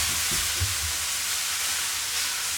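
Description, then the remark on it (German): A steady, continuous sizzling hiss of water on a hot pan, even in loudness throughout, with a faint low rumble underneath and no talking. “Das ist das Wasser.”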